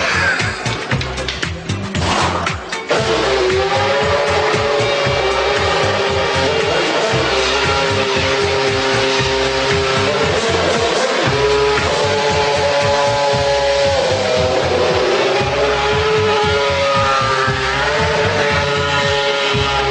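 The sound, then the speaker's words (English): A car engine revs and drones steadily as the car is driven, its pitch rising and falling as gears shift up and down, loud throughout with a brief burst of noise near the start. “Feasibly, you could drive the car.”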